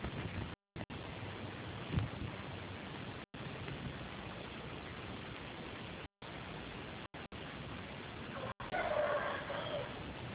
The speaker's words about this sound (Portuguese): Se o forno muda aqui, vocês estão ficar escutando os galos do vizinho.